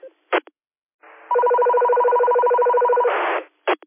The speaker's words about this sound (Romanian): Un coleg al nostru radioamator n-a avut ce face cu telefoanele, cu DTMF-urile.